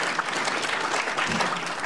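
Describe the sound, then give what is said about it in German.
An audience applauds steadily, a dense wash of many hands clapping at an even level throughout, with no voices standing out. “Ja, Applaus für Kommata, auf jeden Fall, auf jeden Fall.”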